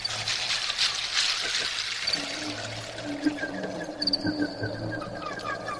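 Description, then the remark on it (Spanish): Steady trickling water pours and splashes continuously at moderate volume, with faint high tones drifting in partway through. “agua.”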